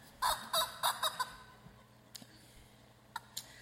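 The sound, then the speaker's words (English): A squeezed rubber chicken pet toy from a pet store lets out five quick, honking squawks in a rapid burst, fairly loud, followed by near silence with a few faint clicks. “Well, you see that this is not a perfect rubber chicken. Definitely not even close.”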